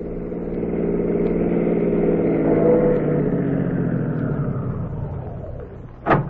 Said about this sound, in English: So at 4 o'clock the next morning, two city cars pulled up in front of the rooming house at 8722 Second Avenue.